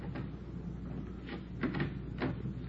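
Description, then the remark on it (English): The back door at the rear of a hotel: its handle is rattled and a latch clicks as the door is tried and pushed open, with several dull knocks and clunks over a steady low background hum. “Well, look, the stains lead over this way to the back door here. Let me try.”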